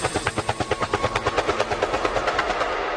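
A helicopter rotor sound effect chops steadily and rapidly, a loud, rhythmic thumping about every eighth of a second that blurs slightly toward the end, with no voices.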